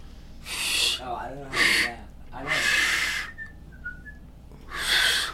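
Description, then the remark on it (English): Someone attempts to whistle: four loud, breathy blasts of air with only a few faint, brief whistled pips in between, plus some muffled voice sounds mixed in. “I'm gonna get a whistle. How do you do those?”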